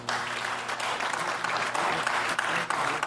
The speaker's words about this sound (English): Big round of applause for all of your round two comics.